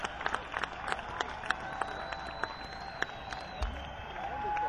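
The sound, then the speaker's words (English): An audience applauds with steady, scattered clapping that blends into a continuous crowd murmur, holding at an even, moderate loudness throughout. “I'd like for everybody to keep those round of applause together.”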